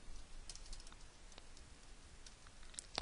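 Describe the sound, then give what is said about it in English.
Quiet, irregular keyboard typing of a URL with scattered light key clicks over a few seconds, a sharper tap near the end, low in level with no voices. “And as I'm typing this URL, I realize that we are missing one thing back in our helpers class.”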